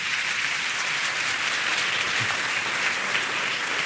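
Steady applause from an audience fills the whole stretch, a dense wash of many hands clapping at once with no individual claps standing out, fairly loud and unbroken, with no talking.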